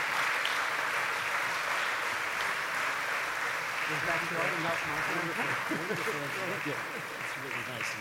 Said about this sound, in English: Please give him a real round of applause.